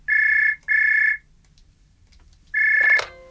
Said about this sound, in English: That's the kind of phone she had, isn't it?